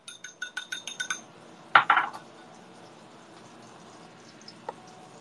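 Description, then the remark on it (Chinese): Eggs being stirred in a pan on an induction cooktop to keep them from sticking: a quick run of light metallic taps from a utensil, then a sharper clank and brief scrape, followed by near quiet with a couple of faint taps. “好，鸡蛋赶紧啊，这个锅别让它鸡蛋粘锅了哈，赶紧处理。”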